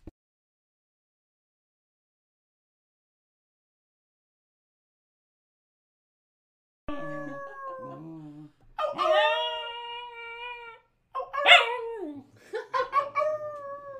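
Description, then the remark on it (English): A dog lets out a short series of high, wavering howls and whimpers, starting after several seconds of silence and rising into a few longer sustained howls. “He did the little howl.”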